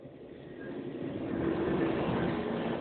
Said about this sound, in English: All right, I'm going to wait. The train's almost gone. There it is. Ah, oh, silence.